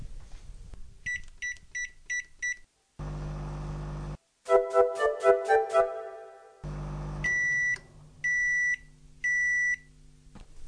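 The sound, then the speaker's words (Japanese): A microwave oven heating a pack of cooked rice at 500 watts for 1 minute 30 seconds: a row of short electronic beeps as buttons are pressed, a steady low hum while it runs, a clunk of the door, then three longer high beeps signaling it has finished. “まずはパックご飯を電子レンジで加熱します。”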